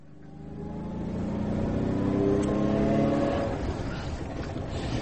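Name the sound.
car engine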